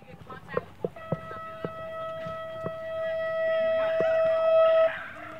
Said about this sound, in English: As the 9 a.m. bell rings at Chavez Huerta Preparatory Academy, kids make their way between small classroom buildings scattered about the Pueblo campus.